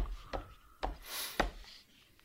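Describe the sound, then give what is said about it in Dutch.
A pen pressed hard against paper while drawing, giving a few sharp taps and a short, rough scratching stroke in between. Brief and fairly quiet, with no voices. “Je duwt heel hard, hè, met je pen.”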